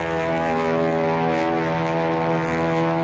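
A propeller plane engine drones steadily in flight, a loud, continuous buzzing hum with a rough, throbbing edge that holds at an even pitch from start to finish.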